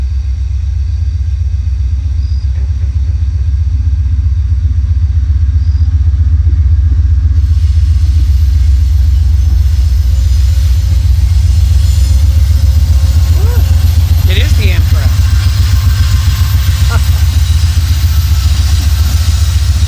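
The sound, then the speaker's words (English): A train rumbles by on the tracks at about 25 miles an hour, a heavy, continuous low roar that swells and grows fuller partway through as it passes, with brief metallic clanks standing out near the end. “This may be the Amtrak coming back, and it might be a freight.”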